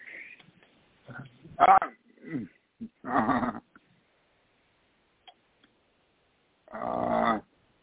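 A dog gives a few separate, fairly loud barks with long pauses between them, plus some softer yelps and snuffling sounds.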